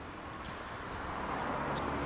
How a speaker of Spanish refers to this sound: Está difícil. Como que se escucha mucho coche por aquí, pero hay poca gente, ¿no?